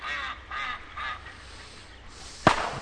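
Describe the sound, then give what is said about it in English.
A duck quacks three times in a steady, evenly spaced rhythm, moderately loud, in a swamp, followed after a pause by a single sharp snap over faint background ambience. The ducks there are supplied, not wild. “Hell, they're the ones who supply the ducks. Haven't been any wild ones here since they built the pipeline.”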